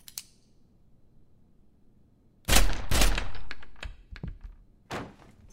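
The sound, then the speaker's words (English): After a couple of seconds of near silence, a rapid volley of loud gunshots fired through a door erupts, two heavy blasts followed by sharper cracks, then one final shot a moment later. No one speaks. “I'm shooting through the door.”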